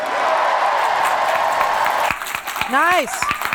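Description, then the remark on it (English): A sold-out crowd of about 12,000 at a political rally in Nampa, Idaho, applauds a senator's message on livable wages and health care access in a steady, dense roar of clapping, which thins slightly before a loud voice lets out a rising cheer over the continuing applause. “The senator's message on livable wages and health care access for all drew some of the loudest applause.”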